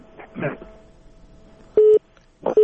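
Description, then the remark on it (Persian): A caller's phone line to Radio Azadi is cut off: a brief burst of muffled speech gives way to the cut-off tone, loud, steady mid-pitched beeps, one long and a second starting after a short pause. “نه دیدی تلفن هم متاسفانه چه قطع شو.”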